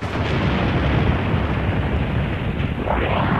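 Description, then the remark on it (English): A dense, thundering electronic sound effect of the world exploding, made in an experimental radio sound workshop, roars continuously at full loudness, heavy in the low end, with a faint sweeping tone rising through it near the end. No voices. “They, you know, did the explosion of the world.”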